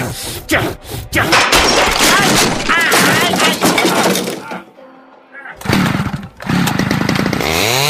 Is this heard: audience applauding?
no